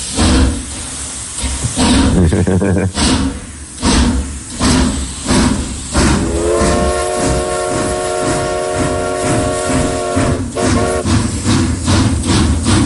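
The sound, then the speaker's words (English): A steam train chuffs in a steady rhythmic beat, then lets out a long, sustained whistle over the continuing chugging before the whistle cuts off and the puffing carries on. “Has he got the steam train?”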